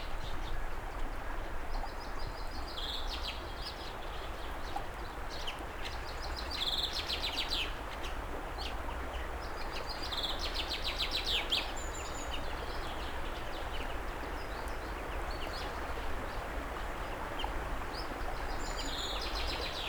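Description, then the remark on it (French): Birds chirp and sing in scattered bursts during the snowmelt, over a steady outdoor background hiss, several calls overlapping, with no voices present. “Et des chants d'oiseaux.”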